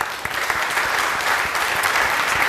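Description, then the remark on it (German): Steady audience applause for speakers Michael Kleinhens and Oliver Zendel fills the whole stretch, a dense wash of many hands clapping at a fairly loud, even level with no voices standing out. “Großen Applaus bitte.”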